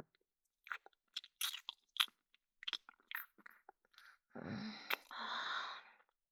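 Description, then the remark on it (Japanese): Wet kissing and smacking mouth noises with tongues entwined, in quick bursts, in the middle of a street, followed by a longer breathy, slurping stretch near the end. No talking. “ベロ、よろしく絡めてきて。”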